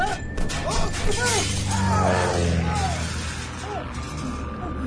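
A car's rear window glass shatters loudly from gunfire by a low-flying plane in Poland, a burst of breaking and crunching that lasts several seconds, with agitated vocal cries rising and falling over it.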